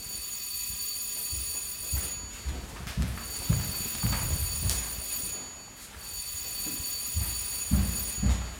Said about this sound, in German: Das war das dritte Klingelzeichen.